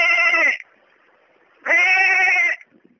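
A sheep bleats twice, loud, with a short pause between. The first call is brief and the second is longer and wavering, both with a nasal, buzzy tone.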